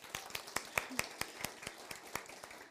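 An audience claps for a young girl, together in a steady, even rhythm, about four or five claps per second, soft, with no voices on top.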